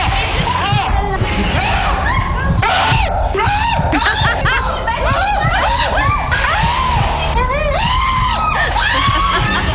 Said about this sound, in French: Alors attention, c'est réalisé sans trucage, ce ne sont vraiment que les cris de ….